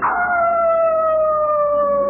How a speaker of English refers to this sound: A hungry wolf had found the flock.